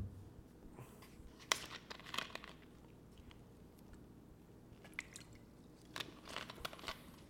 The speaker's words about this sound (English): However, let me take a sip.